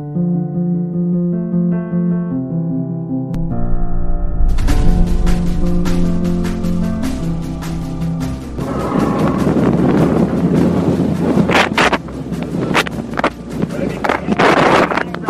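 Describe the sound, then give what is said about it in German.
Strong wind buffets the microphone with a loud, rumbling roar and crackling gusts during the Race Around Ireland. It takes over after a few seconds of steady tones and stays heavy to the end. “Der erste Teil klingt noch ziemlich viel Wind.”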